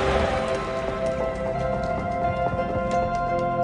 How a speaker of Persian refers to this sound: آره خودشه، یه ضربه عالی، عجب ضربه میزنه این جردن و توپ وارد سبد میشه. حرکات جردن واقعا باور نکردنیه و تماشاگرها چه تشویقی میکنن. صدای جمعیت رو میشنوید؟ اونا عاشقشن.